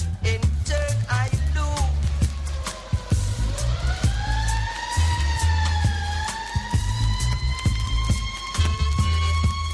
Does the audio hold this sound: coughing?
no